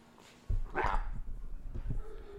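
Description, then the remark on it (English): A dog lets out one sharp, fairly loud bark, followed by a few softer, shorter yips over a steady low rumble in the background. “I didn't realize the dog was cute”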